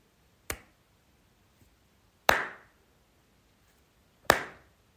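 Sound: three hand claps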